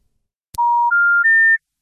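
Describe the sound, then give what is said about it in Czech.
A click on a telephone line, then three loud, steady electronic tones rising in pitch, each lasting about a third of a second, as a listener's call into a live radio broadcast drops. No voices. “Ne, já jsem jim to vzal, ale už volá znova, tak to je nějaký zmatený posluchač.”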